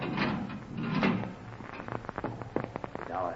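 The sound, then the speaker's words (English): A heavy steel door grinds open with a low rumbling scrape, followed by a run of sharp metallic clicks and clanks as it moves, moderately loud, with no voices. “The steel door was being opened.”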